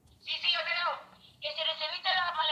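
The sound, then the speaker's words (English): A phone ringtone chimes in two bright, melodic bursts separated by a brief gap, fairly loud, as a WhatsApp video call comes in from Cuba during an interview in La Crosse, Wisconsin, with no one talking over it. “start an interview with a few Cuban exiles who live in La Crosse, a phone rings.”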